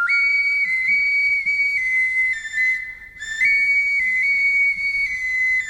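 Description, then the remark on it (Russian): A Mari stone or clay bird whistle, a folk instrument of the Volga region also called the Mari clay nightingale, plays a bird-imitating melody in a loud, pure, high tone that steps between a few close pitches, breaking briefly midway before continuing; no voices. “Таш Сыбызгы называется каменный свисток, шуншушпык, глиняный соловей марийский.”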